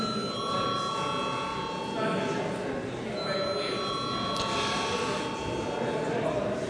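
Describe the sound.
A parliament's electric voting bell, rung to call a vote on whether to grant urgency to a deputies' request, rings steadily for several seconds, a sustained, bright metallic tone with shimmering overtones, while a low murmur of many voices continues underneath.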